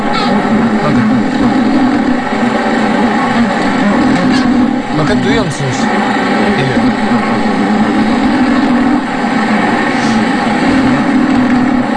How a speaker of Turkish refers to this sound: Hassas bir mikrofonla dans eden arının kanatlarıyla bir akustik ses çıkarıyor. Etrafındaki izleyicinin dikkatini çekmek için.